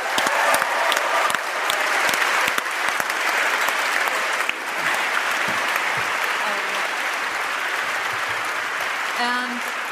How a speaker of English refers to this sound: I'd like to just get a huge round of applause and a thank you to the Boston Book Festival for having us.